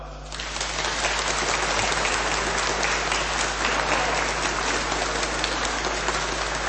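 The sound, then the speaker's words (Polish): An audience at a children's rosary circle gathering in the Sanctuary of Our Lady in Rychwałd, served by Franciscan fathers and brothers, applauds the hosts steadily, a dense, even wash of clapping that holds at a strong, constant level throughout, with no voices rising above it. “Dla gospodarzy dzisiejszego spotkania już na początku także gorące brawa.”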